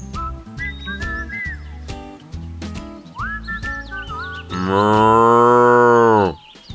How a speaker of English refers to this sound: "What is that noise?" said Johnny. Timmy pointed to a cow.